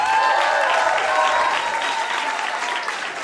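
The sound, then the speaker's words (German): Steady audience applause, a dense wash of many hands clapping at constant loudness, easing slightly toward the end, with no voices standing out. “Mach mal Applaus, bitte.”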